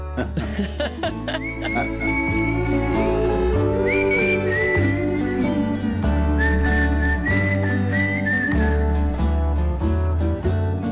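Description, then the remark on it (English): A musician whistles a bright, wavering melody over a full band with heavy bass and drums, the whistled tune clear and prominent above the steady, loud accompaniment. “That's you whistling.”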